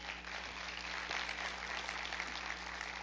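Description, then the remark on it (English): A church audience claps their hands for the praise team in steady, dense applause for about three seconds, a broad hissing wash of many overlapping claps with no talking. “Let's give our praise team a big hand clap.”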